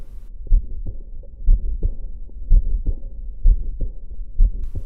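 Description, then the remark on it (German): A steady heartbeat of low thumps, about one per second, with a soft whooshing heart murmur filling the gaps between beats. No one speaks. “Also ich höre da so eine Welle, so ein Rauschen.”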